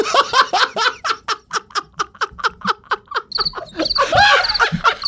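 crickets chirping

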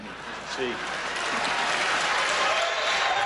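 applause

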